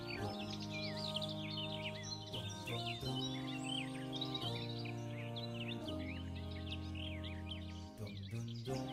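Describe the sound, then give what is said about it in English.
A dense chorus of parrots and parakeets chirps and squawks continuously from trees, with a steady low droning tone underneath. “The trees around here, hear that? They're filled with weird birds like parrots and parakeets, and that's because the Ottomans had a tradition of selling birds for cages, yes.”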